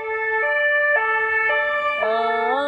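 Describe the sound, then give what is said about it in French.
A loud ambulance siren blares its alternating two-tone wail in the morning, the notes switching about every half second, and the pitch shifts near the end as it passes by. “Ah bah voilà, une petite sirène du matin.”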